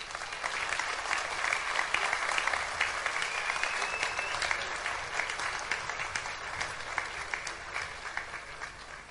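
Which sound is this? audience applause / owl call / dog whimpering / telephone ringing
audience applause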